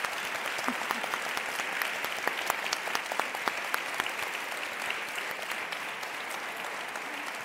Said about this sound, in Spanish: No sin anunciar antes, con un aplauso fuertísimo.